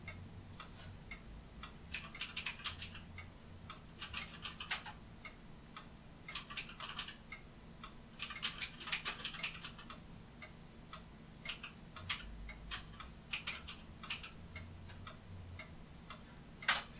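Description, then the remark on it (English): Typing a search query on a computer keyboard: bursts of rapid, crisp key clicks arrive in short irregular runs separated by brief pauses, moderately quiet, with no one talking. “I go to Google and I'm typing in communist death toll”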